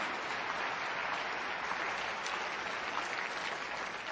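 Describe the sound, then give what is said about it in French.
An audience applauds steadily, a dense, even wash of many hands clapping for about four seconds with no voices standing out. “que ceux qui le croient disent amen et applaudissent les possibilités qu'il y a en Dieu.”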